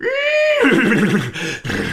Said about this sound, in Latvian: Meitene nodomā un jau grasās aizvērt logu, kad no jauna saklausa zirga pakavu dipoņu un skaļu zviedzienu.